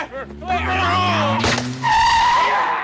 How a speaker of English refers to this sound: jumps over a speeding car. What kind of driving is that?